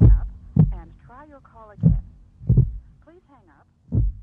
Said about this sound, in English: is punctuated by a gunshot and a failing heartbeat.